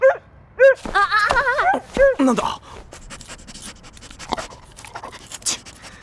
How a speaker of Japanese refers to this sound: ただの野良犬じゃねえか。もっと、なんだ。 犬だ、脅かしやがる。